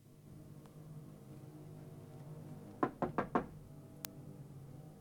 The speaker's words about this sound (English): Taking keys from his pocket, he heads down the dimly lit corridor to Dorothy's door and knocks on it.